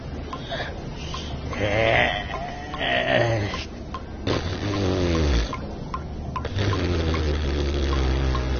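Water splashes and sloshes steadily for several seconds, with a few louder surges as Gomtor and Delmas come up out of a river; no speech.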